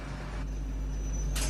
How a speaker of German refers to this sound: Hier wird nicht ausgestiegen. So, sorry. Ich muss jetzt eben mal kurz die Türen öffnen.